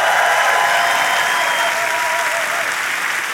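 Loud, steady applause from a crowd celebrating a couple's 15 years of marriage fills the whole stretch. A dense wash of clapping with faint cheering tones woven through holds level and eases only slightly toward the end.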